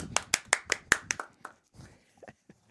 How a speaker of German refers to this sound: Bitte einen großen Applaus für unseren Boxi.